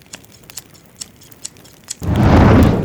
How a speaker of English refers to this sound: When Shanty finished with the scissors, there seemed to be enough hair and beard on the floor to stuff a pillow.